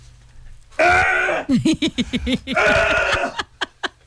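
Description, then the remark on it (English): A loud coughing fit: two long, raspy, wheezing bursts, each followed by a rapid string of short hacking coughs that taper off into a few sharp single coughs. “You're going to cough up a lung.”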